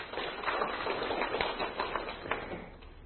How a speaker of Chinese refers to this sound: 好，来给这些朋友掌声鼓励。